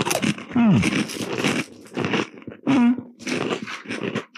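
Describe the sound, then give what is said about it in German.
Loud crunching and chewing of crisp cookies in several bursts of bites with brief pauses, mixed with a few vocal grunts or murmurs. “Wir kauen auf.”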